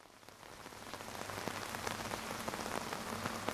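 Heavy rain pours down steadily overnight in the backcountry, around 2:47 a.m., outside a tent: a dense hiss with many sharp drops pattering and spattering on a hard surface, growing slightly louder over the few seconds, with no voices.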